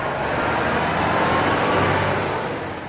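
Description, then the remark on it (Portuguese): The engine of a free municipal bus that takes a boy and his brother to school rumbles, steady and loud, with a high whine rising slowly and fading slightly at the end. No voices. “O ônibus busca e deixa ele e o irmão no caminho.”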